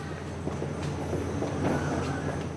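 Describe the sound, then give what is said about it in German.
A regional train rumbles steadily with faint rhythmic clatters and brief high squeaks of the wheels as it pulls into the station at Neuenburg, a small town on a bay of Lake Neuenburg, under a grey, rainy sky with dark clouds. No one speaks. “Ankunft am Bahnhof Neuenburg, eine Kleinstadt, die sich in eine Bucht des Sees schmiegt.”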